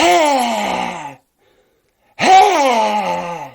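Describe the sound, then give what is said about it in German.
Two loud, harsh, nasal landing calls of a Eurasian collared dove as it lands in a large oak, spreading its tail and beating its wings forward to brake; each about a second long and slightly falling in pitch, separated by a brief silence. “Umso abgefahrener klingt ihr Kontaktruf oder ihr Landeruf, nenne ich den, weil die es oft machen, wenn sie landen irgendwo.”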